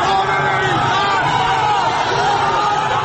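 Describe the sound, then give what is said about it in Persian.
A large crowd chants loudly on Enqelab Street near the university dormitory area, angered after security forces fire tear gas to disperse them, many voices rising and falling together in a steady, sustained roar with overlapping shouts and no pauses. “مردم با شلیک گاز اشک‌آور خشمگین‌تر می‌شوند و با صدای بلند شعار می‌دهند.”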